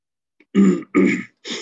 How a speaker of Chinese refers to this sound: 呀，我家里空气很干燥，所以一直在咳嗽啊，对不起。